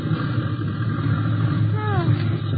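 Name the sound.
small airplane engine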